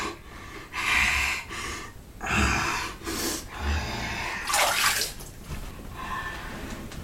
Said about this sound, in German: baut Bernd den Geburtspool auf und füllt ihn mit Wasser